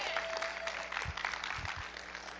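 A church audience applauds a woman as she comes up, with steady, dense hand clapping that holds at an even, fairly loud level throughout, with a few low thumps mixed into the crowd noise.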